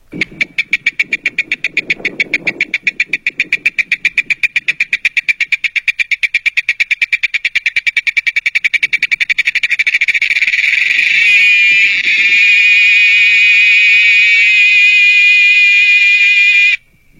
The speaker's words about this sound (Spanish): ¿Qué tal, eh? Una chicharra que fue captada por ahí en el campo. Me hicieron el favor de mandarme esto. ¿Qué bonito se oye? Sí, es un sonido muy lindo, muy peculiar, que incluso pues hasta nos relaja, ¿no?